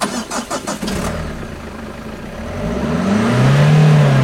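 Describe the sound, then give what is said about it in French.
A broken-down car's engine cranks with a quick series of starter pulses, then catches and runs, its low hum building into a rising rev near the end. Fairly loud, with no voices. “Et en plus, la voiture est en panne.”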